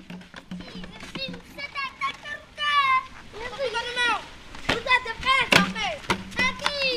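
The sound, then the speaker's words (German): Children play football outdoors on one of the few patches not covered by water or rubbish in Munyawa, a district of Beira, Mozambique, with lively high-pitched voices shouting and chattering and a few sharp thumps of the ball being kicked scattered through. “Kinder spielen Fußball auf einer der wenigen Flächen, die gerade nicht von Wasser oder Müll bedeckt sind.”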